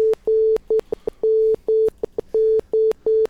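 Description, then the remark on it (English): A steady mid-pitched tone keys on and off in a pattern of long dashes and short dots, like Morse code being tapped out, loud with no voices. “We're now broadcasting in Morse code.”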